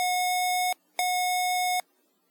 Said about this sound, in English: Four short beeps or vibrations indicate $50. One short beep or vibration, followed by a long beep or vibration, indicates $100. Two long beeps or vibrations indicates that the banknote cannot be read.